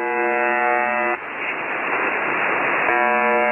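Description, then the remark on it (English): A harsh, steady radio buzzing tone with a rough harmonic edge, broken for about two seconds by a burst of hissing static before the loud buzz returns. “This is a recording of a shortwave radio station that's commonly known as the buzzer.”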